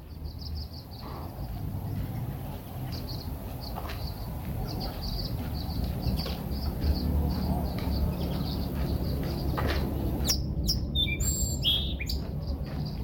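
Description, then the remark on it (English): A sparrow sings a steady series of short, high chirps over a low, constant rumble, ending in a quicker, more intricate burst of trilling notes. “Did you share that song, Sparrow? Let's see if it'll sing for us again.”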